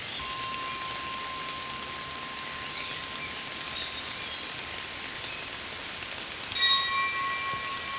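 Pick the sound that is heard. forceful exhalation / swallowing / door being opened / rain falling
rain falling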